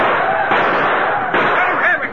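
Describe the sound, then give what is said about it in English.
Gunfire crackles through a dense, noisy din as riders open fire on attacking Indians, with sharp shots standing out at a couple of points and a tumult of shouting beneath, all loud in a thin, muffled recording. “Indians! Here they come! Open fire on them!”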